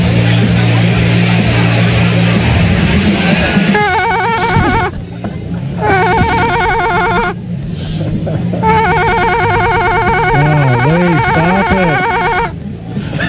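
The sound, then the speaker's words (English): A telephone rings in several loud, buzzing bursts separated by short pauses, following a few seconds of lower, muffled sound. Voices can be heard faintly underneath. “Somebody has to answer that.”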